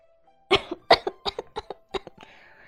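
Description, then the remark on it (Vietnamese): A burst of repeated, sputtering coughs, about eight in quick succession, fairly loud, from a person choking on a mouthful of tea, trailing off into a breathy wheeze. “Ta sặc tung tóe nước trà trong miệng, ho sặc sụa không ngừng.”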